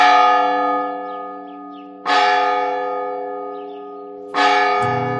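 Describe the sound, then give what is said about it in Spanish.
Bells of a Carmelite convent ring out in slow, steady strikes, about three heavy tolls whose rich, resonant hum lingers and fades between each one, rung as the nuns prepare for the prayer of the hours, with no voices present. “Así suenan las campanas del convento de las Carmelitas, cuya torre puedo ver desde la ventana de mi casa.”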